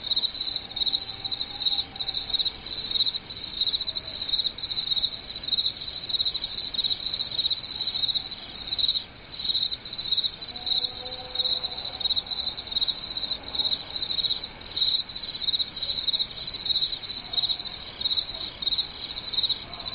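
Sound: crickets chirping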